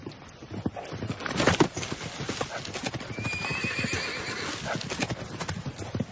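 Steady clip-clop of horse hooves on a hard surface, with a loud whinny in the middle and a shrill, wavering neigh later, all without speech.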